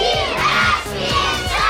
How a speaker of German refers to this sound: Herzlich willkommen in Mannheim. Willkommen, großen Applaus für unser Publikum.